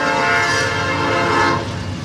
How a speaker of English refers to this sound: A good deal of the daytime traffic through Homer, Illinois, is on the Norfolk Southern line that splits the town in two. When the trains speed through and the gates go back up on Route 47